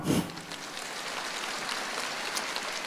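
Steady, crackling applause from a crowd, a dense patter of claps holding an even level for about three seconds after a brief louder burst at the start.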